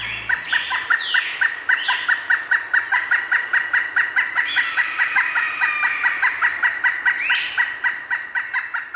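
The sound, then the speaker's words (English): Local birds call continuously in a rapid, rhythmic stream of repeated chirps, played through a hotwired payphone in a corner of town, with a few rising whistles cutting through now and then. The calls are fairly loud, with no talking. “But I thought it would be really great to be able to hotwire a payphone and put in the sounds of the local birds so that you'd hear the sounds of the birds that were actually all around you.”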